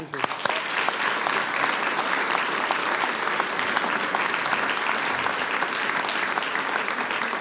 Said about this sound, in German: Danke, das ist euer Applaus.